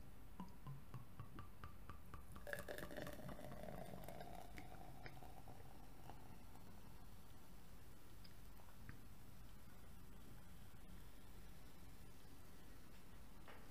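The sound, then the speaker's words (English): Belgian ale pours into a narrow glass, a brief gurgling rush early on, then a steady soft fizzing and crackling of foam as a tall head forms, continuing quietly throughout, with no one talking. “I have another type of glass now this today, and this is a little bit, gives a little bit higher head.”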